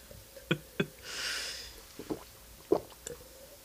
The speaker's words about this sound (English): Don't mind me as I just slam water against the back of my throat.